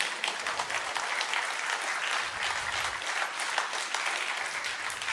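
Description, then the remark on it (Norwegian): Steady applause from a church audience for those who work among children and young people, a dense wash of many hands clapping at even volume for several seconds without any voices over it. “Det er nesten sånn at jeg skulle hatt en applaus for alle dere som jobber blant barn og unge, men det øverlar jeg til menighetens egen spontanitet og avgjør hvorvidt det blir en applaus til dere.”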